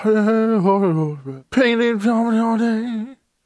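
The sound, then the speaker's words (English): A voice imitates a man in public absent-mindedly humming along to music on a headset, two wavering melodic phrases with a brief break between them, fairly loud, with no other sounds. “Guy listening to music on headset while in public.”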